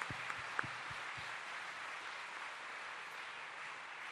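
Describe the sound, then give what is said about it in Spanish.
An audience applauds steadily and loudly for the King of Kings and Lord of Lords, a dense wash of many hands clapping at once, with a few sharper individual claps and thumps near the start before it settles into an even roar. “Aplaudir, hágalo fuerte, que es para el Rey de Reyes y Señor de Señores.”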